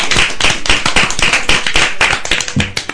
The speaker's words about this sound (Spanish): ¡Qué bien! ¡Un aplauso! Esto merece un aplauso.